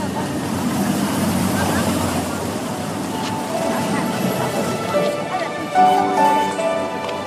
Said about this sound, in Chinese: 又到了这个城市最忙碌的时刻，晚高峰的车流如同海浪一般汹涌地冲刷着每一条大街小巷。